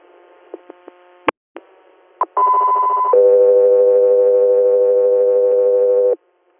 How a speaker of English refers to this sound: Guthrie Air, standby for tones.